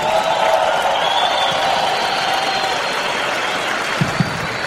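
A crowd applauds steadily for the speaker's wife, a dense wash of many hands clapping with faint cheers mixed in, holding at an even, fairly loud level throughout without fading.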